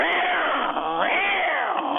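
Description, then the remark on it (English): A voice mimics a car's shrill screeching, coming out as loud, wavering cat-like yowls that swoop up and down in pitch continuously for about two seconds. “Sounds like some angry cats.”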